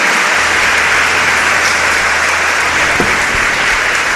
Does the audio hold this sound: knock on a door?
no